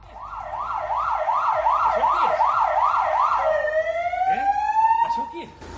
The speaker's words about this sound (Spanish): Así que sus padres le han pedido a ese agente de la Benemérita que le dé ánimos. Y para allá que se fue, con su uniforme y, por supuesto, con la sirena puesta.